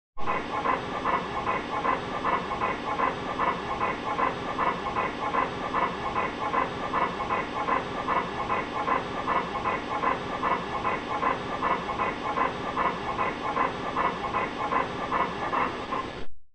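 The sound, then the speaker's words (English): A Labrador with partial laryngeal paralysis pants rapidly and steadily, each quick breath carrying a harsh, raspy inspiratory stridor on the inhale, the rhythm unbroken for the whole stretch with no voices. “Listen to the inspiratory stridorous component of the respiratory sounds of a panting Labrador with partial laryngeal paralysis.”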